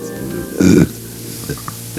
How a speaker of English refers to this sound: Belching and belching, I couldn't shut up. Every sound I made was a belch. I tried to scream, but a belch came out instead.